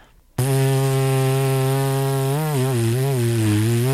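A trumpeter's lip buzz, used as a warm-up, starts abruptly and holds a loud, raspy low tone, steady at first, then wobbling up and down in pitch in short waves toward the end.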